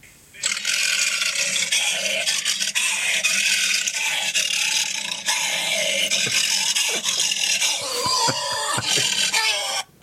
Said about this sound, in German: Und der hat sich auch Mühe gegeben, dass jedes Löwengebrüll etwas anders klingt. Und ich habe hier von YouTube mal eine kleine Hörprobe mitgebracht, wie sich das anhört, wenn ein ausgebildeter Synchronsprecher in einen Blechmülleimer reinschreit.